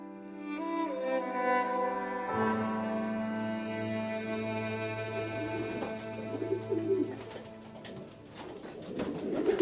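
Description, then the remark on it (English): Several pigeons coo in low, throaty, rolling calls that overlap continuously, with a slight rise in busy fluttering noise toward the end. “In Somalia, pigeon racing is very simple. It's you and your pigeon.”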